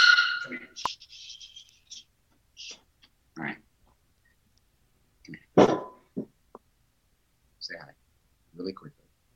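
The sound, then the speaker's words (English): A distressed dog with its foot stuck yelps and squeals in a series of short, high-pitched bursts with brief pauses between them, moderately loud, with an excited, piglike, grunting quality. “The dog's foot was stuck in a anyway.”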